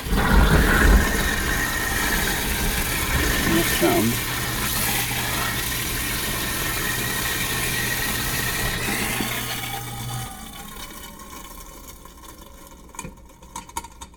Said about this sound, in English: And there's some garbage here, so I get to run the garbage disposal. It's a pretty new, quiet garbage disposal, so it may not make that much noise.